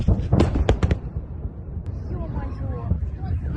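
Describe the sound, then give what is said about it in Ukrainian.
A quick cluster of three or four sharp, loud explosions, recorded by witnesses among holidaymakers, bursts out at the start, then gives way to wind rumble and people talking. “Ось їхня реакція, тільки вони почули вибухи та побачили хмари диму.”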